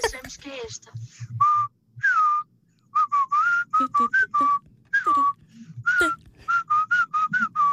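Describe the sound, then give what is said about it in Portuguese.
A whistled melody played in reverse: a quick run of short, clear notes with odd swelling attacks and abrupt cutoffs, loud, with a faint low rumble underneath. “O Assobio está lá. Assobio é esta de trás para a frente.”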